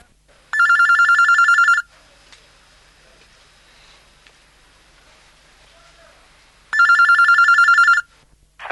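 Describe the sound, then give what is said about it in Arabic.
A telephone rings twice for a phone-in question-and-answer session, each ring a loud, rapid electronic trill lasting over a second, separated by several seconds of quiet background hiss. “من سلسلة الهدى والنور أجوبة على أسئلة عبر الهاتف.”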